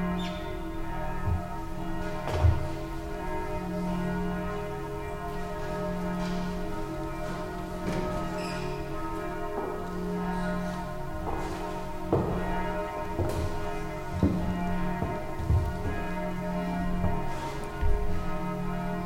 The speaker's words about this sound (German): Wir lassen noch kurz die Glocken wirken.